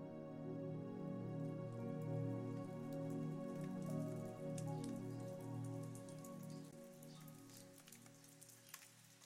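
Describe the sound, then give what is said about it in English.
Faint, scattered raindrops left from a long-gone storm patter irregularly on a surface in a tiny jungle village in Costa Rica at early morning, quiet and far off, with a soft, steady low hum running underneath throughout. “It's completely quiet, except for the distant patter of a few raindrops from a long-gone storm.”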